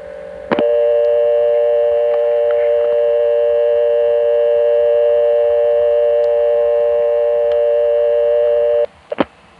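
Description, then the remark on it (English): A steady, droning telephone carrier noise on a call to 1+411 directory assistance, a buzzy hum with layered tones that holds unbroken for about eight seconds, then cuts off with a couple of sharp clicks. “On this call, you can hear some of that carrier noise, and it includes the directory assistance recording that the Bell companies were using in some places prior to directory assistance charging.”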